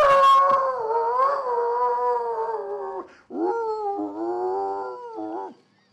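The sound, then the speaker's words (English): A dog out back howls in long, wavering, tuneful notes, rising and falling like singing, with a short break before a second sustained howl; fairly loud, with no one speaking. “Got a kind of a musical howl.”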